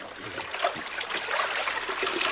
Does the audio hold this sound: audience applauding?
no